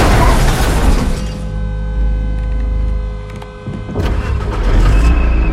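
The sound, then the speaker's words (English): An SUV's engine roars loudly, then it crashes into a parked car, a heavy impact with crunching metal and shattering glass, loud, followed by lingering rattling debris and engine noise. “The SUV smashes into a parked car.”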